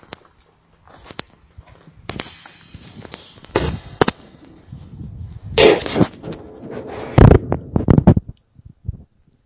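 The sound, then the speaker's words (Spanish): A series of sharp, booming bangs like old rifle shots or a cannon, loud and irregularly spaced, each with a short crackling tail, no voices; a noise recorded in Belchite, Spain, when someone bumped a fence, likened to a Spanish Civil War-era rifle shot. “en aquel momento en el laboratorio coincidíamos, que era como parecía como un cañonazo, como un disparo, ¿no? Y nos confirmaron de que era el disparo de un fusil de aquella época.”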